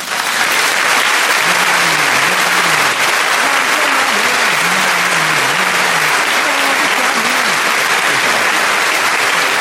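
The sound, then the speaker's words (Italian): Steady, dense clapping from an audience fills the whole stretch at an even, loud level, with a faint voice murmuring underneath partway through. “Fammi l'applauso.”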